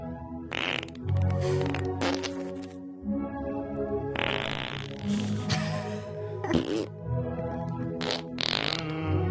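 Repeated loud fart sound effects blast over a music track with a steady bass line, the sputtering bursts recurring every second or two throughout.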